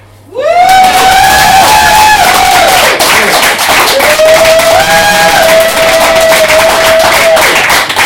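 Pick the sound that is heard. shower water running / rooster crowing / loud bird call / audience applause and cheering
audience applause and cheering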